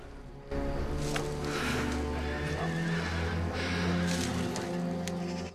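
Several horses neigh and whinny loudly over a steady clatter of hooves, the sound starting abruptly and continuing as a busy mix of calls and clopping.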